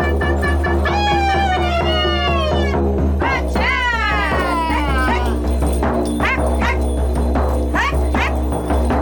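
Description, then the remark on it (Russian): Sled dogs at a Koryak camp in Kamchatka, Russia, bark and yelp excitedly, their long, high, wavering cries overlapping at first, then breaking into shorter, sharper calls over a steady low rumble, loud throughout. “Корякское стойбище с ездовыми собаками уже 3 года принимает гостей на Камчатке.”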